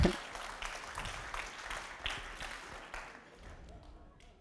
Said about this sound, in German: Danke. Applaus.